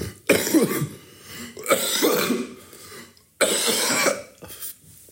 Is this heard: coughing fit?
yes